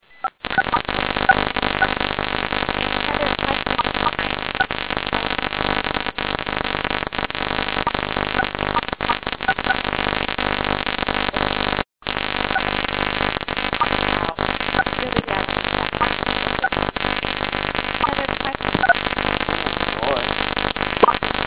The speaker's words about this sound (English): We have a bus in there.